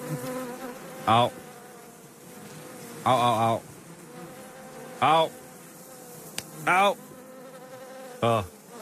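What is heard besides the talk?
bees buzzing around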